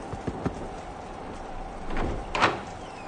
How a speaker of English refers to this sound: Knock on the door.